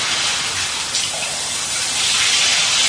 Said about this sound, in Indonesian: Tak lama ku dengar suara Ivan di kamar mandi, seperti sedang menyiram.